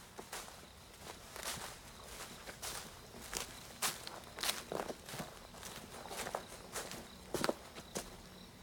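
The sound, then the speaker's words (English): Footsteps walk down a set of steps from a back door at a steady, unhurried pace, each tread a soft distinct thump. They are fairly quiet, with no voices. “He comes back down the steps from the back door and returns the way he came, walking right past Maddie”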